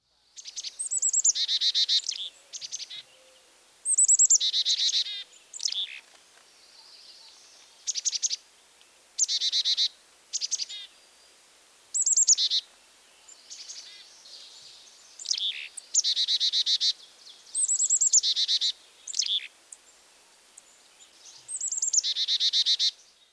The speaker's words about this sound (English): Here's the call of the Carolina chickadee, which is similar, but higher pitched and faster.